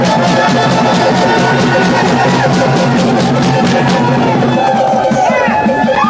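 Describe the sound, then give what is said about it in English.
A large crowd roars with sustained loud cheering, clapping and whistling, a dense wall of noise that holds steady for several seconds with shouts rising above it. “So give yourselves a round of applause and some real loud noise so they will hear you all across Washington, D.C.”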